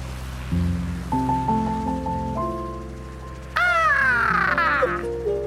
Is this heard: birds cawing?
yes